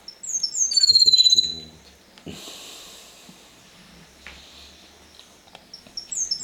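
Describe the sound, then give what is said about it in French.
A pet bird chirps in a quick burst of bright, high, whistling notes, then falls quiet under faint background noise before a few more chirps at the end. “Je préfère tout jeter et garder mon oiseau.”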